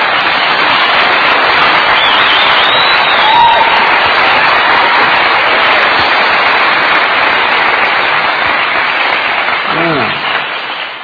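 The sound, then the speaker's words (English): An audience applauds, a steady wash of clapping that holds loud for the whole stretch, with a brief shout or voice poking through and the clapping thinning slightly at the end. “does this sort of sparse and scattered standing applause from a few indicate the rest of you wish I didn't?”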